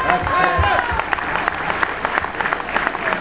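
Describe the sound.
A crowd applauds a speaker from Zuni steadily, dense overlapping claps forming a continuous wash of sound, with a few voices and cheers mixed in.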